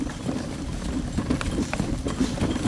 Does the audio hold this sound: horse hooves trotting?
yes